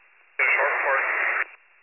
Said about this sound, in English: You're all static.